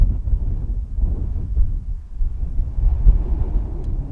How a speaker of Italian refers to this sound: Ultimo in ordine di tempo, un mese fa circa, il suono del vento su Marte grazie alla sonda InSight.